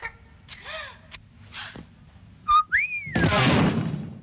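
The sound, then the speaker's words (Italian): Someone whistles a short, loud phrase that jumps up and then slides down in a long falling glide, preceded by faint scattered sounds and followed by a burst of rough noise. “Ma chi ti ha dato il permesso da fischiare?”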